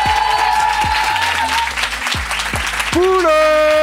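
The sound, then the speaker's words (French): Loud, dense applause from an audience, steady clapping throughout with a brighter musical tone rising over it near the end. “Merci beaucoup, faites du bruit.”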